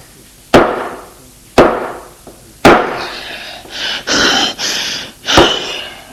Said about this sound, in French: Furieux, il le prend et avec donne des coups dans la porte d'un appartement. Il cogne, cogne et le couteau s'enfonce à plusieurs endroits dans le bois.